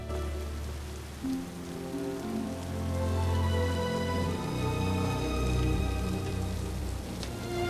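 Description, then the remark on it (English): A heavy downpour of rain hisses steadily and continuously and loudly beside a waiting plane, with a low sustained droning tone running underneath throughout. “Geismar remains standing in the downpour, watching her go.”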